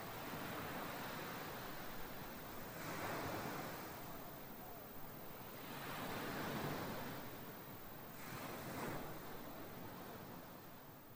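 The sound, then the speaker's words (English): Ocean waves roll in and break on the shore in a steady, hissing wash, swelling three times at an unhurried pace. It sounds soft, with no voices. “With a happy heart, collect your things, rise, bid a fond farewell to the sea, and turn for home.”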